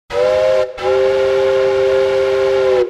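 A train bound for Monetbach sounds its whistle, a short blast followed by a long sustained one, loud and steady with a bright harmonic tone and no voices.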